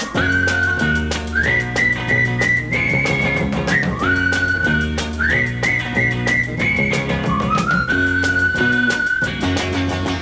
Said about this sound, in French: Quand un garçon dans la rue rencontre un de ses copains, on lui sifflait un petit air qu'il connaît plus ou moins bien. Pour l'appeler, il en prend un truc qu'ils ont mis au point, le sifflet des copains. Le sifflet des copains.